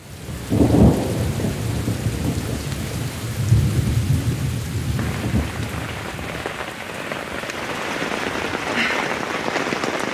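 Heavy torrential rain pours down steadily during the rainy season in Uganda, a dense roar of water hitting surfaces as the water level rises, with low rumbling swells that sound like thunder early on. No voices.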